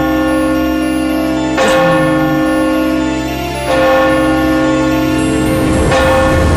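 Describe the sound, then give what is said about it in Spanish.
At night, a clock strikes three deep, resonant chimes, the last chimes of the day, evenly spaced about two seconds apart, each ringing out loudly and hanging in a long, humming decay with no voices. “Ahí tienen que una noche a punto de irse a dormir, el reloj comenzaba a dar las últimas campanadas del día.”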